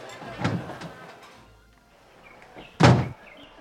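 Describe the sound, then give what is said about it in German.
A door opens with a soft thud as people go outside, then about two seconds later swings shut with a louder, heavier bang, with quiet room noise between the two. “Lass uns doch mal vor die Tür gehen.”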